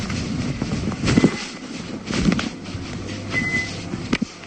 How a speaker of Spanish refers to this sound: Esto es un microondas. Entonces se ve como... Bueno, se ve, no, se oye. Como abre el microondas, saca la comida, los cubiertos, los platos y tal.